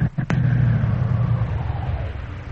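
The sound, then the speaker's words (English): A car rumbles along a rough road, its low engine drone steady and continuous, with a sharp knock or jolt right at the start. No one speaks. “You want to wait here in the car?”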